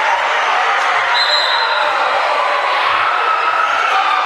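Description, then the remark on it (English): A basketball crowd roars loudly and steadily after Robinson makes the first of his free throws with a minute 4 to go, a dense, unbroken wall of cheering that holds at full volume throughout, with a thin high whistle-like tone briefly rising above it. “He hasn't hit it yet, but he just hit the 6-7 signal, if you're familiar with that, as he makes the first, and there it is, and the crowd roars.”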